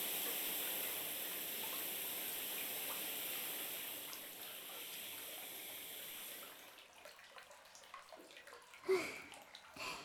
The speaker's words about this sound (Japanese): それではシャワーをかけたところで、